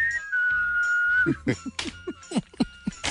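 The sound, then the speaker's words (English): A person whistles a short tune, a high clear note that steps down and holds steady for about a second, followed by someone talking in quick bursts. “Isn't that the whistle?”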